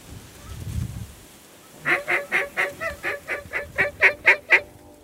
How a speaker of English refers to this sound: What was that? Oh, that was me blowing my call. Duck, that's your duck call.